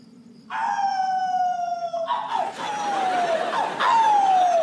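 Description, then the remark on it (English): Loud, drawn-out howling: a long wavering howl that slides downward in pitch, then two more overlapping howls following closely, each sagging lower as it fades. “I'm howling. What does it look like I'm doing?”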